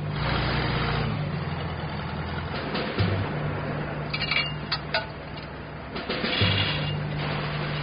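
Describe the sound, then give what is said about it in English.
A heavy truck engine, stuck in the middle of the road in Buffalo, drones and idles as the truck is being moved off the road, with low rumbling revs rising briefly and faint metallic clinks scattered through the steady mechanical noise. “Cargo supervisor Janelle Glenn now has to find a way to get the truck off the road.”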